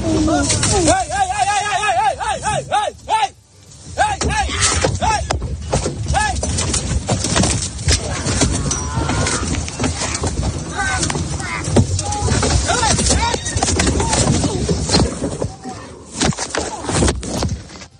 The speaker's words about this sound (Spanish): Iba en un convoy, en un safari en Zambia. Mira cómo suena. Un elefante los persigue y los embiste.